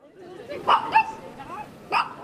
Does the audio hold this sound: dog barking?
yes